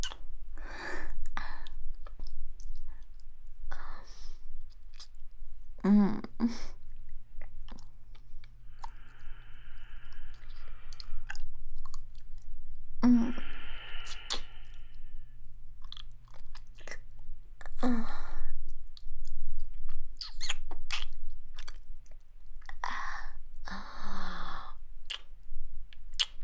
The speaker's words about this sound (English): I really like what I'm hearing, baby girl. The sound of your sweet lips, your soft, panting breath. From both of you.